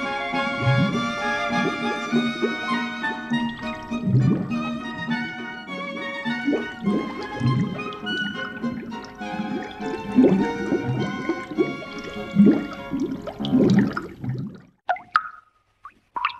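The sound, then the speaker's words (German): Tap water from the first mountain spring water pipeline pours steadily into a vessel for about fourteen seconds, a bright ringing tone running through the splash, then stops, leaving a few scattered drips. Nobody speaks. “Wasser aus der ersten Hochquellenwasserleitung.”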